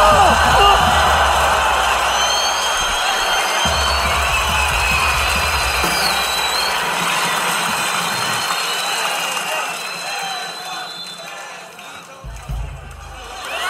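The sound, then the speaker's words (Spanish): A large audience loudly chants "beso" ("kiss") together in Spanish, a dense, continuous roar of many voices that holds steady for over ten seconds before briefly dipping and swelling again. “¡Gritando beso!”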